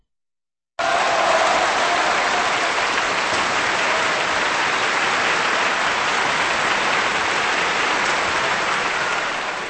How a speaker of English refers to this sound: And that applause for the Bavarian Symphony Orchestra conductor Kirill Kondrashin and pianist Marta Argerich, bringing us the fantastic First Piano Concerto by Tchaikovsky here on KPR.